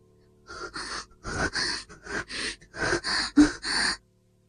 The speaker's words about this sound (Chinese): 不说话，只是大口的喘气。